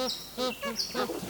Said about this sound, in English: I love the sound of a magpie goose honking away.